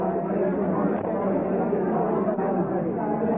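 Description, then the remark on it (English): A packed Irish pub roars at full blast, with a crowd from Cork sporadically singing: a loud, steady wash of many overlapping voices blending into one dense crowd din for the whole stretch. “Just turn that up and you'll hear the sound of an Irish pub going full blast.”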